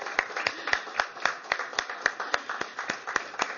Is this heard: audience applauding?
yes